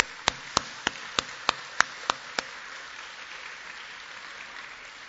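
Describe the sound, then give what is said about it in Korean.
A church audience applauds the pastor and his wife as they stand. A wash of many hands, with eight sharp, evenly spaced claps standing out at first, then the clapping continues as a steady diffuse patter, no voices heard. “우리 박수로.”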